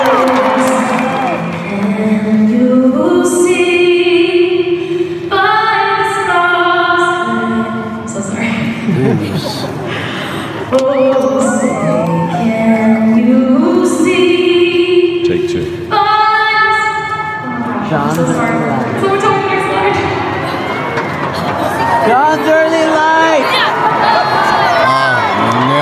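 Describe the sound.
A large stadium crowd at a soccer game sings the national anthem together with a singer, loud sustained melodic phrases rising and falling, with her lead voice carried over the massed singing and scattered cheers in the background.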